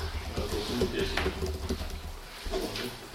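Pigeons coo in low, soft, repeated notes against a steady wash of outdoor noise, with a few brief scratchy rustles mixed in.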